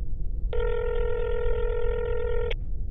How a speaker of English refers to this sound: I'm gonna call him. It's ringing.